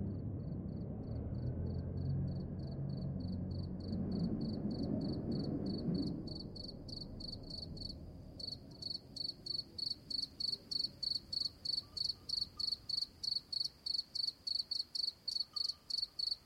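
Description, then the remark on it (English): Crickets trill at 1 a.m. in the Alentejo cork forest, Portugal, on hills of cork and oak trees under a gray night sky, in a steady stream of high-pitched, rapid pulses. A low rumble underneath fades after the first few seconds, leaving the chirps louder and sharply rhythmic on their own. “Alentejo Cork Forest, Portugal, 1 a.m.”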